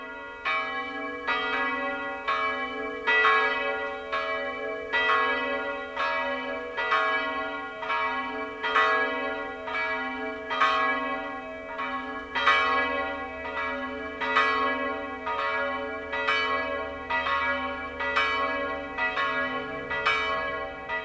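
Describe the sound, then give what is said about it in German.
The two bells of the Allerheiligen pilgrimage church near Warngau in Upper Bavaria, Germany, ring together at noon in a steady, overlapping pattern of strikes, loud, each stroke leaving a long humming resonance that blends into a continuous peal with no voices. “Das Mittagsläuten kommt heute aus der Filial- und Wallfahrtskirche Allerheiligen bei Warngau in Oberbayern.”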